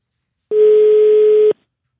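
A single steady telephone ringback beep, one loud, clean tone lasting about a second, alone with silence before and after, as heard while waiting for a call to connect.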